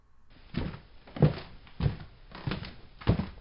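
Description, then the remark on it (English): An unlocked door is opened amid a handful of dull wooden thunks spaced unevenly over a few seconds, moderately loud, with no voices, as someone steps in cautiously. “Opens the unlocked door and steps in cautiously.”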